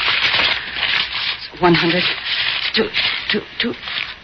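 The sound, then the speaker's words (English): Steady papery rustling and crinkling as a stack of fake bills, blank paper, is riffled through and counted, with brief murmured voice fragments breaking in partway. “Sure you want to count it. But you'll find it's all there.”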